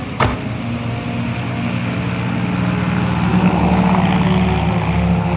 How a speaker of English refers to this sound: The plane taxied down the runway and vanished into the fog.